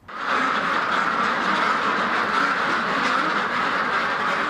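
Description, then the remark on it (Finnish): A dense, continuous chorus of many top-class ducks quacking together at the Silver Hill farm on the Irish border, loud, with no pauses across the whole stretch and no talking. “Irlannin rajalla kaakattaa valioluokan ankkoja.”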